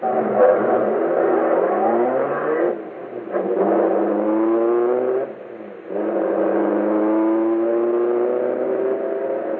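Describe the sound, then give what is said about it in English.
A car engine accelerates hard, its pitch climbing through two quick gear shifts, staying loud for the whole stretch with no voices. “Okay, step on it. Head for the vault.”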